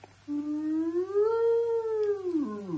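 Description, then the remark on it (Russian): A single buzzy synthetic tone, a sonification of experimental results that conveys the shape of a graph, glides upward, holds a fairly steady pitch for a while, then drops away at the end, all over a constant low hum with no talking. “Например, если температура поднимается быстро, а потом медленно опускается, можно услышать это в звуковом варианте с помощью звукового тона, быстро поднимающегося и медленно опускающегося.”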